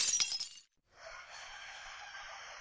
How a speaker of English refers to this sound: She folds her arms, looks at the vase, and kicks the foot of the desk. The vase wobbles, tips over, and shatters.